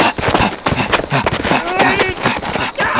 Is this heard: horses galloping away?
yes